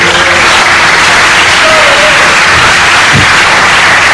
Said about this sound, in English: Can I have like a round of applause for him, please?